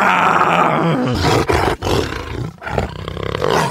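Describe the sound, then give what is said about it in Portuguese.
A person does a loud imitation of a lion's roar, a rough, growling bellow sustained for several seconds with a couple of brief breaths or breaks before surging again. “Como que o leão faz? Que leão? Você tá falando técnico? Não, leão, leão de verdade.”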